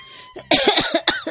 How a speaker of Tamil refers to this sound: இந்த இருமல் சத்தத்தை கேட்டாலே பத்திக்கிட்டு வருது. ஆஸ்மாக்கார அம்மாவை ஏன் தலையில கட்டிட்டு அவர் பாட்டுக்கு வெளிநாட்டுக்கு பறந்துட்டாரு.